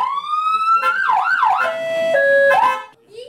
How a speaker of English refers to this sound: After looking at the equipment, we turned on the siren and lights.